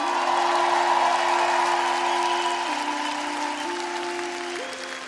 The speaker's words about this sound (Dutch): een groot applaus voor de man van het licht